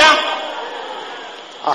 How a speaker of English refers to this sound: There is a slapping sound now.